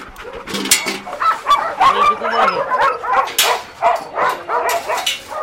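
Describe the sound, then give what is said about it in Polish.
Several dogs in kennel pens bark and yip excitedly in quick, overlapping bursts, with some whimpering mixed in, as a person talks over the commotion and tries to go into a pen. “Ja spróbuję wejść, słuchajcie.”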